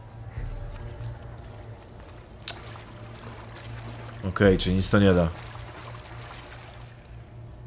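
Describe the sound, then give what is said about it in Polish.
Water trickles steadily in the background throughout, a soft continuous flow over a low hum, while a person speaks briefly in the middle. “A, to też jest woda.”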